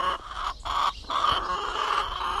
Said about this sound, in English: Chickens are allowed to roam free to keep the bugs under control.